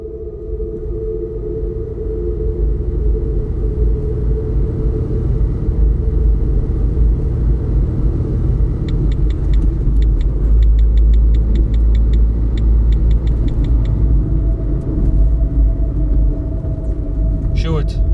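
A steady car engine rumble hums throughout as the car is driven to former Heineken director Philip de Ridder, with a faint rapid ticking like a turn signal partway through.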